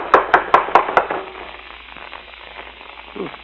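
Five quick, evenly spaced, firm knocks on the door of a house, rapped from the porch, then give way to a quiet, faintly noisy background.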